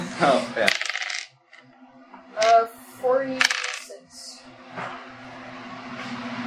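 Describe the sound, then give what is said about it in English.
Tile dice clatter and tumble across a hard tabletop in a few quick bursts of bright clicking, then settle, with a faint steady hum underneath. “What am I rolling? Tile dice.”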